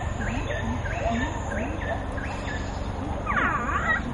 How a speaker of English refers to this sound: It's monkeys, isn't it, that? Sort of. It's just, yeah, it's actually just a speaker system with sound.